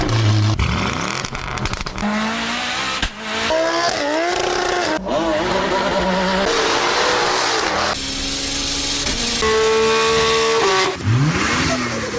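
Loud petrol car engines, typical of cars in Australia, rev hard, their pitch sweeping up and down through repeated gear changes and accelerations, with cuts between roaring passes and a brief tire squeal, no talking.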